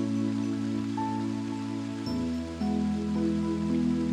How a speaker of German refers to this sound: Auf der einen Seite fällt das Wasser wie ein silberner Vorhang hinab.